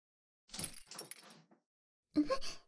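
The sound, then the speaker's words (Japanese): Keys jingle for about a second, followed after a short pause by a sharper metallic rattle and clack as a door is locked. “なんで鍵閉めて？”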